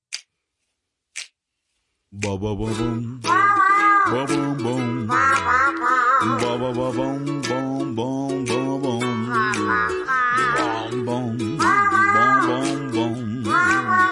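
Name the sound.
rooster crowing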